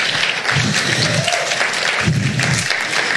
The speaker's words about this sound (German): Und ich möchte mal alle Muttis bitten, kurz aufzustehen. Wo sind die Muttis? Gebt denen mal doch einen richtig dicken, fetten Applaus.